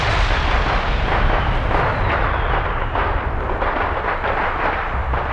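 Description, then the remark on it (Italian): A loud, continuous barrage of explosions and bursting fireworks as a rocket carrying Shen Yu crashes into a fireworks tower in Mulan, with dense crackling blasts rumbling together for several seconds, overwhelming with no pause. “Il razzo con Shen Yu si scontrò contro la torre dei fuochi d'artificio.”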